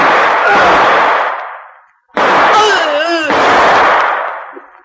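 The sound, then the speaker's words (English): Two loud gunshots from a .38, shooting two people, ring out about two seconds apart, each blast trailing off in a long, rumbling decay; a brief wavering cry from a voice cuts through the second shot. “Johnny, you shot both of them and knocked out Walter.”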